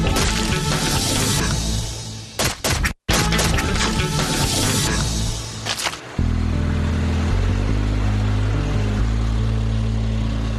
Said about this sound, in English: Truck goes out. Cows follow the truck.